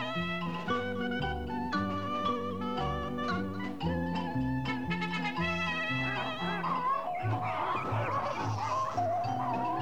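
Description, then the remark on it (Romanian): A farmyard flock of poultry honks and clucks nonstop, many overlapping calls, growing into a busier, noisier squabble near the end. No one speaks. “Și atunci toate păsările din ograda boierească, văzând vitejia cocoșului, s-au luat după dânsul, de ce se părea că e o nuntă, nu altceva.”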